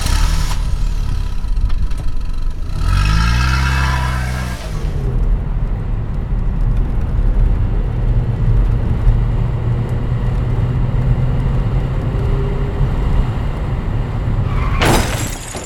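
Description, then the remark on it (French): A man starts his car's engine to drive home: it turns over and revs, its pitch climbing, then settles into a steady low rumbling idle for a long stretch before an abrupt, harsh burst of noise at the very end. “Il allume le moteur pour rentrer chez lui.”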